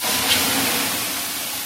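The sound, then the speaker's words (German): Lilac-scented infusion water is poured onto hot stones in a small sauna with a wooden bench, releasing a loud, steady rush of hissing steam that holds nearly constant for a moment and then eases slightly, with no voices. “der haut uns jetzt mal eine ordentliche Portion Flieder drauf.”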